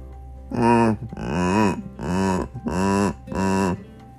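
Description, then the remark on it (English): Five loud, deep, bellowing dinosaur roars in a steady rhythm, each about half a second long, with a pitch that swells up and sinks back down. There is no talking. “Those are dinosaurs!”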